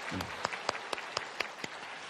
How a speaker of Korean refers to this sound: 네, 다 같이 박수 이렇게 하시겠고요.